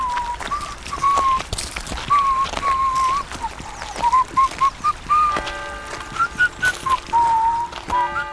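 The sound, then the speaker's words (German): A lively whistled melody rises and falls steadily over eight seconds, with a regular crunch of footsteps tapping underneath, as an Alpine cheesemaker walks cheerfully down into a valley on a hot day with cheese wheels tied on his back, taking them to market. “Er hatte sich die Käseräder auf den Rücken gebunden und wanderte fröhlich pfeifend ins Tal hinab.”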